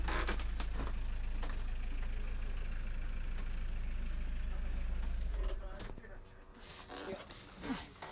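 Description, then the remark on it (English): A vehicle engine idles with a steady low rumble, then shuts off about two-thirds of the way through, leaving quieter background ambience with a few scattered small sounds. “There you go, engine is off now.”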